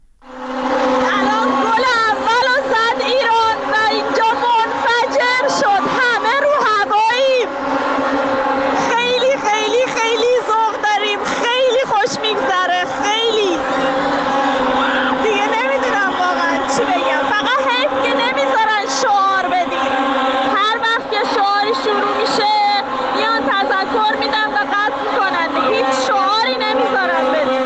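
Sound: stadium crowd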